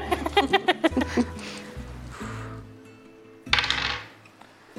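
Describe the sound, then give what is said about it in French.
Two dice rattle and tumble across a surface in a couple of short clattering bursts, moderately loud, with rhythmic tonal music playing underneath and at the start. “Il faut que tu lances les dés, que tu fasses moins de 30.”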